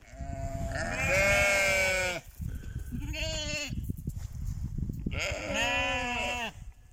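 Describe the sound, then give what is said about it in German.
Sheep in a field, watched by shepherds, bleat loudly, three long wavering calls with short pauses between them, over a low rustling background and no talking. “In der Nähe waren Hirten auf dem Feld und passten auf ihre Schafe auf.”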